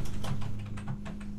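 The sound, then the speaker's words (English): Rapid, frantic typing on a computer keyboard in a makeshift home recording studio, a quick run of clicking keystrokes over a steady low droning hum in the background. “Also, my wife typing frantically on her computer.”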